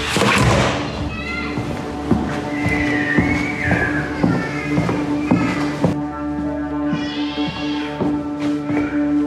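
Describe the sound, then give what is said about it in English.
A series of firm, loud knocks on the door of a building, coming in irregular clusters over a steady tonal hum, with a faint meow-like sound drifting through the background. “Knock on the door?”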